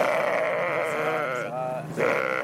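Several sheep bleat loudly and continuously at a livestock market in Sabalibougou, commune 5 of the Bamako district, their wavering calls overlapping in a busy, crowded setting, with a brief dip before another bleat rises near the end.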